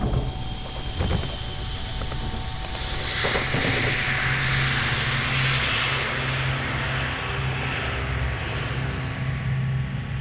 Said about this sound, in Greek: προσδίδω μία μελωδικότητα σε χαοτικούς ήχους. Και αυτό γίνεται με τη χρήση κάποιων συγκεκριμένων προγραμμάτων που παίρνουν, για παράδειγμα, τον ήχο ενός αεροπλάνου και δίνουν κάποια μουσικότητα. Και αυτό υπάρχει και στο κομμάτι μου μέσα